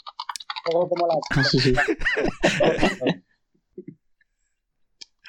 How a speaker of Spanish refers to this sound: como teclees a esa distancia del teclado, vas a tener que poner el mute, porque si no es invivible.